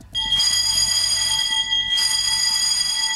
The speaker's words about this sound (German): Im Holzhaus der norwegischen Grenzbeamten in Storskog klingelt jedes Mal eine Glocke, wenn sich jemand vom gegenüberliegenden Kontrollposten der russischen Seite in Richtung Norwegen aufmacht. Seit einigen Wochen ist dies nun fast ständig der Fall